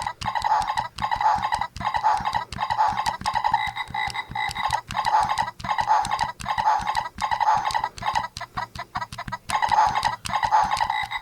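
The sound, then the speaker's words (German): Electronic animal noises from a toy, mostly croaky frog-like calls with clucking sounds, triggered over and over as a steady, fast rhythmic beat, loud with no talking. “Das ist, glaube ich, ein Hund oder so, ein Wolf. Oder den Frosch.”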